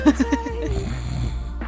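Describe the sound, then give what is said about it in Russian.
A brief snoring sound, fairly loud, likely a voice imitating it: three quick rough pulses followed by a drawn-out nasal drone that fades into background murmur. “Храпишь?”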